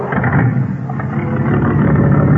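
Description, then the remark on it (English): A black car rumbles by with a steady, loud low-pitched engine roar and road noise that holds throughout, swelling slightly toward the end as it passes. “Next car, Ed.”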